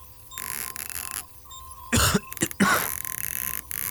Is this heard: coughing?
yes